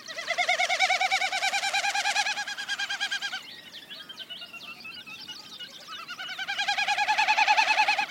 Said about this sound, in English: And a Wilson snipe.